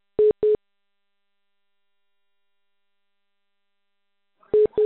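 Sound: telephone line tone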